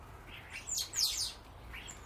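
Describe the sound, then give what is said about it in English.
A flock of gregarious birds squabbling, with several overlapping bursts of high, sharp chirps and tweets rising and falling over about two seconds, with no voices. “You know, for birds that are entirely gregarious, they're just the same as any big family. There's the pecking order and the squabbles, and they like that with any food, anything at all.”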